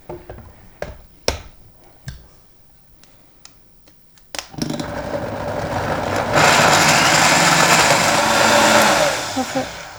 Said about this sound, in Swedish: Och så ska man bara mixa den tills den är helt slät. Mm-hmm. Okej, men då sätter vi igång.